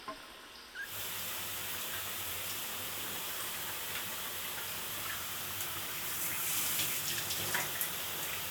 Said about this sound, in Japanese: そうしましたら、まずはシャワーを。